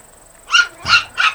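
A dog being walked by a woman at night barks three times in quick succession, short sharp yaps, clear, with no voices around them.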